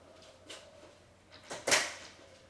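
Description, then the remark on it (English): A door is pushed shut: a couple of soft bumps and scrapes lead into one firm closing thud, with faint hum and no talking. “And there is that door. If we close, we are fine.”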